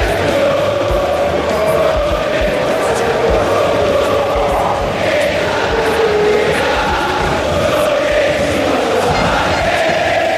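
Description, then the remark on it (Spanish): A huge football crowd roars steadily from the San Martín stand of River Plate's Monumental stadium in Buenos Aires, Argentina, thousands of voices blending into a dense, continuous wall of chanting and shouting that swells in places, loud and unbroken throughout. “Estem escoltant la platea San Martín. Estem a Buenos Aires, al Monumental. Aquesta és la canxa de River Plate.”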